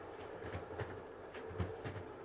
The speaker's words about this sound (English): Can you hear the sound of the train riding along the rails?